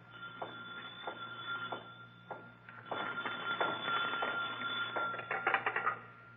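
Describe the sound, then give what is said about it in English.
A telephone on a night watchman's desk in the Egyptian hall of a city museum rings repeatedly in short, insistent bursts shortly past midnight, with a steady low hum in the background and no voices. “Suddenly, a phone rings on the desk of the night watchman, rings and shatters the silence of this modern tomb of ancient art.”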